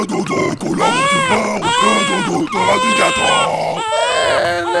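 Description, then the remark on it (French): A baby in a stroller cries loudly while a man rocks the stroller energetically, in a series of rising and falling wails that follow one another almost without pause for several seconds. “il est en train de bercer énergiquement, c'est le moins qu'on puisse dire, sa poussette avec le bébé dedans.”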